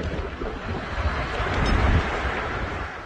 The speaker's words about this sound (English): Up this mountain, there's debris. Listen to that roar. This is a violent tornado. Debris falling.